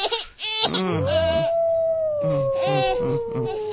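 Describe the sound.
A wolf howls in one long, steady note that slowly sinks in pitch, with shorter yips or rough vocal bursts breaking in around it, fairly loud.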